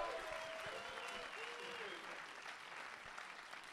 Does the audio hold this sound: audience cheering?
yes